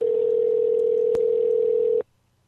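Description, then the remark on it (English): A telephone ringback tone purrs steadily for about two seconds while a call is placed to a friend's phone, then cuts off abruptly, with a small click partway through. The tone is clear, and nobody speaks. “I'll just say she's making a call.”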